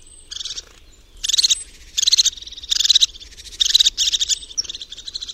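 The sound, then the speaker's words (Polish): A crested tit gives rapid, bubbling, trilling alarm calls in a series of short bursts, each a high, purring rattle repeated about every second, with a quiet background; the calls signal alarm in a conflict situation. “Charakterystyczne dla niej są szybkie, bulgocące, przypominające perlisty śmiech dźwięki, po których można odróżnić jej śpiew od piosenek wszystkich innych gatunków sikor.”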